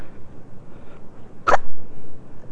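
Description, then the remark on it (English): A single sharp, short hiccup pops out about halfway through, against a low rumbling background with no talking. “Did you hiccup?”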